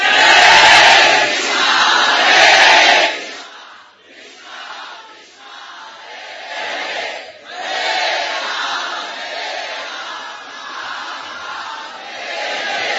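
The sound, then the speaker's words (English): A huge crowd of about 3,500 devotees chants and roars together at full volume, a dense wall of voices that swells loudly for a few seconds, dips, then rises again into sustained group shouting. “All you 3,500 devotees together are not even close to the volume of one of those little children.”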